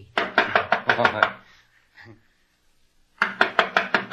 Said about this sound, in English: I'll knock on the door.